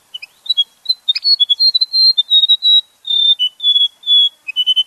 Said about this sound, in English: Western warbler or white-throated warbler. Western Gerigon? Jirigini. Jirigini. Yeah. Jirigini.